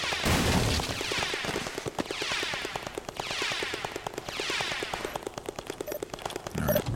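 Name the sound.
video game gunfire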